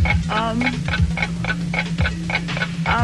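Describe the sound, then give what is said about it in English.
A game-show countdown clock, set to 10 seconds, ticks steadily at a brisk, even pace, each tick sharp, over a constant low electronic hum. “Okay, we're going to put 10 seconds on the clock”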